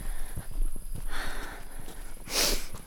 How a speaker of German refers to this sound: Ich mache noch ein paar Schritte bis vor zur Straße.